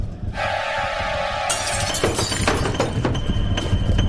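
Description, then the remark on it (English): The window glass of a fish house shatters with a sudden loud crash, followed by several seconds of crackling, tinkling shards over a steady low rumble, after a brief sustained tone at the start. “He stared at me through the broken pane.”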